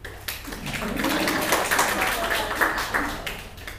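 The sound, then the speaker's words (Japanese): A group of people at a meeting applauds together after a show-of-hands vote approves the activity report, a dense, steady patter of clapping that holds for several seconds at moderate loudness, with faint murmuring beneath it. “以上をもちまして、以上をもちまして、活動報告は承認されました。拍手。”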